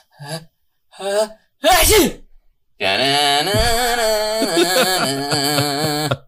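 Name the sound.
imitated sneeze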